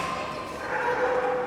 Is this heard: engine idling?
no